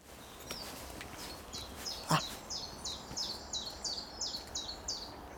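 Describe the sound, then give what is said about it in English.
A chiffchaff, a greenish leaf warbler, sings a steady, repeated series of high two-pitched 'chiff-chaff' notes, evenly spaced, over faint outdoor background noise with one brief knock partway through. “It's a chiff-chaff, it's a warbler, a leaf warbler, so it's basically a greenish bird.”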